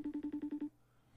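A FaceTime video call ringing: a quick run of seven short, even electronic beeps, loud, ending abruptly and leaving near silence. No one speaks.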